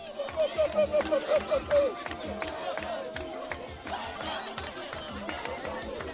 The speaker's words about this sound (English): And the highlight was a dance-off. There were three girls about 10 years old, one of whom was on crutches, one of whom was looked to have burns all down her side, and they just went for it. You can hear sound of the crowd.